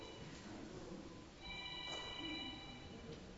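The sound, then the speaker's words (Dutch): A mobile phone in the audience rings with a high electronic melody, fairly faint over a murmur, starting about halfway through and continuing to the end. “Er is iemand die wil amen roepen. Door zijn mobieltje, ja.”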